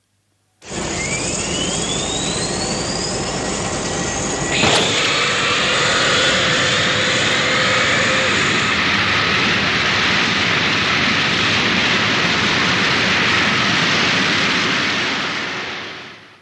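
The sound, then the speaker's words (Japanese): The engine of the Bacchus III spacecraft powers up with a rising whine, then bursts into a loud, steady roar of thrust that holds for over ten seconds before tapering off slightly at the end; a soundtrack recording of its start-up thrust. “バッカス3世のエンジン始動噴射音”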